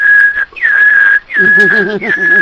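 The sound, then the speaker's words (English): A voice imitates the overload alarm of a UPS with a laser printer plugged into it: a loud, steady high whistle in four long blasts separated by brief gaps, the last two joined by a wavering hummed tone underneath. “In fact, our fearless leader plugged the laser printer into the UPS and wondered why there was all of a sudden a...”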